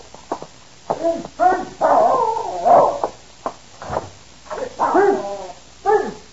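A dog named Prince yips and whines in a run of short, pitched bursts, some barks mixed with longer whimpering cries, repeating irregularly over several seconds with no one talking.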